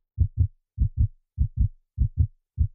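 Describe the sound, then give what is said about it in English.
A heartbeat thumps in steady, low double beats, lub-dub pairs repeating about every half second, five pairs in all, each one deep and solid with nothing else sounding. “But the beating grew louder, louder. I thought my heart must burst.”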